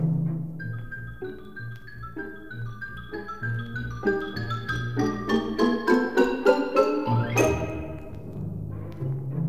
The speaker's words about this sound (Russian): Ксилофон.